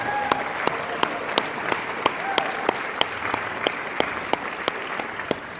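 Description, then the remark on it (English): A standing audience gives a speaker another round of applause, a dense wash of clapping with one sharper, evenly spaced clap standing out in a regular beat on top, with no voices. “While you're still standing, let's just have another round of applause.”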